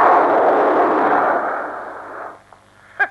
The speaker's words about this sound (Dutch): Een bom!